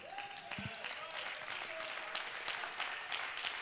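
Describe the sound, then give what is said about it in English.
An audience claps steadily, a dense wash of many hands with sharp individual claps poking through, alongside some scattered voices and cheers. “Oh, don't just clap your hands if you believe what I'm saying.”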